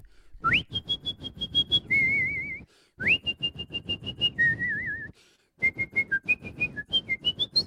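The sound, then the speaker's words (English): A person whistles a fast, high operatic soprano melody, the Queen of the Night aria from Mozart's The Magic Flute, in three bursts of rapid staccato repeated notes and trills, loud, with brief pauses between phrases and no talking. “Would you like me to whistle from the magic flute, the Queen of the Night”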